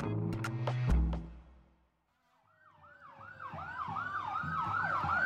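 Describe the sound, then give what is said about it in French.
A fire truck's wailing siren rises in from near silence, its sweeping up-and-down tone repeating and growing louder, with a brief burst of music fading out beforehand. The fire truck makes its way through a crowd in the city streets of Santos, São Paulo state, Brazil, in January 2023, carrying a black coffin on its roof. “Un camion de pompiers fend la foule dans les rues de la ville.”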